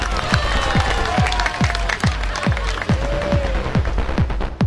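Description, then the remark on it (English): A dense wash of applause and crowd noise, with high whistles gliding over it and a steady beat of deep thumps, about two per second, underneath throughout. “Well, that applause is certainly not for that wonderful opening that we had there”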